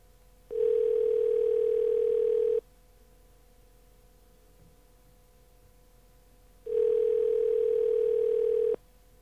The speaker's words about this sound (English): Oh, it's ringing. It's ringing. It's ringing. This could be a miracle.